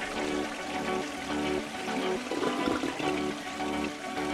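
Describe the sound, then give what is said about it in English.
A toilet flushes with a loud, steady rush of water that swirls continuously for several seconds, with no voices. “It's time to flush the format.”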